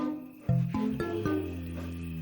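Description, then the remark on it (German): A brown bear growls in a deep, rumbling voice, the sound pulsing in several quick surges over a couple of seconds, loud with no one talking. “Das klingt eher nach Grummelbär mit schlechter Laune. Und das stimmt beides. Braunbären brummen.”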